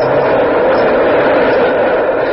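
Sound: elevated train passing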